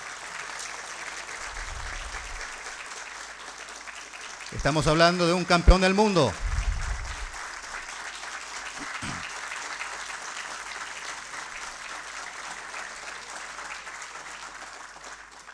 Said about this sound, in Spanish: En la sala de sesiones de la Honorable Cámara de Diputados de la República del Paraguay, correspondiente a hoy miércoles 12 de diciembre de 2018, que no paren los aplausos, por favor.